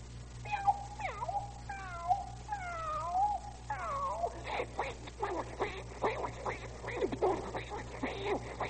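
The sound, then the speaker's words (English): Two cats square off with drawn-out, wavering yowls and meows, then break into a rapid, overlapping flurry of harsh cries and hisses, loud throughout. “Now, for the benefit of the household pets of our listeners, let's have a cat fight.”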